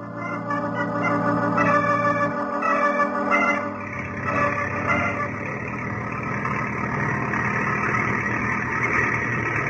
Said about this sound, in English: You may stop the desert truck now, Effendi. We have come to the end of our journey.